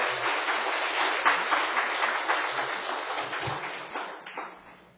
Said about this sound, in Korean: 우리 목사님 나오실 때 우리 박수로 환영해 주시기 바랍니다.